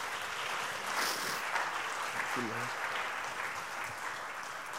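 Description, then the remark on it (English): A church audience applauding, giving God a hand clap after the teaching: a dense, steady wash of hand claps lasting several seconds, with a brief voice rising faintly through the noise partway in. “If you received the teaching, give God a hand clap here today.”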